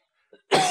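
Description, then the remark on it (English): A single loud cough bursts out after a brief quiet moment, preceded by a faint little throat sound, with no talking. “I should get one of those cough buttons.”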